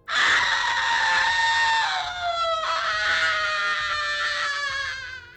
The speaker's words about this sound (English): She peered at the still waters and screamed.